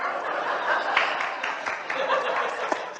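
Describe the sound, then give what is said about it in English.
An audience breaks into clapping mixed with laughter and chatter, a steady wash of sharp hand claps lasting a few seconds at moderate loudness. “Who clapped?”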